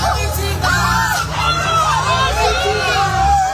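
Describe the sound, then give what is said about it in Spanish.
A dense crowd gathered at Callao in Madrid, Spain, for a singer's album announcement murmurs and chatters outdoors, many overlapping voices with occasional raised shouts, while low traffic rumble runs steadily underneath. “Y ayer hubo un gentío también en Callao, en Madrid.”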